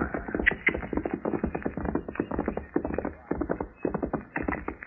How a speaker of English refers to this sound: Look up ahead there. Hey, by heaven, it's a horse. Yeah.